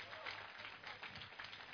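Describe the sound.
An audience breaks into sustained applause as a clap offering to the Lord Jesus during a sermon, a dense, steady wash of many hands clapping at once, with voices calling out faintly beneath it.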